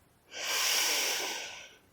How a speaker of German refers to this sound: Wir atmen dreimal gemeinsam ein und aus und halten zwischendurch die Luft kurz an. Atme tief ein, die Luft kurz anhalten und wieder ausatmen. Wir atmen nochmal gemeinsam ein